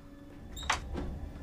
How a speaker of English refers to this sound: She opens the door and pushes back the curtain.